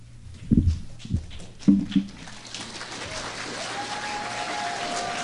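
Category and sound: crowd, audience cheering and applauding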